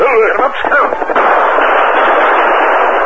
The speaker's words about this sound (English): Look, Kemosabe. Me see Indians. Them shoot gun. Oh, five of them. They're shooting at someone in the draw below.